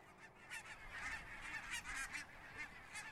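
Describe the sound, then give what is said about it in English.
A flock of wild geese flying in formation in autumn honks repeatedly overhead, overlapping nasal calls in an irregular chorus, airy with a steady background wash. “Yes, if you look up in the sky in the fall, wild geese flying in formation are a familiar sight. Their haunting honks can carry quite a distance.”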